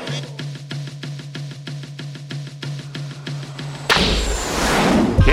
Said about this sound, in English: Cannon. The cannon, the cannon. That's back.